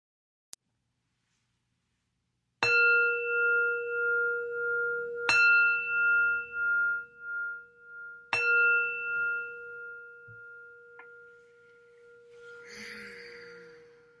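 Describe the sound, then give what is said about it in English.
A meditation bell is struck three times, a few seconds apart, each strike ringing out with a clear, sustained tone that slowly fades. A soft rustle follows near the end. “I'll ring the bell to start us off.”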